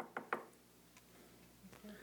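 Two quick knocks in close succession, like knuckles rapping on a door, sharp, followed by quiet with only faint background noise.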